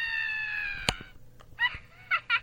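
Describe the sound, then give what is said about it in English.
A witch's cackle sound effect from a Halloween sound machine: a long, shrill, quavering note, a sharp click, then three short bursts of high-pitched cackling laughter, loud, with no talking. “Yeah, they use the same witch.”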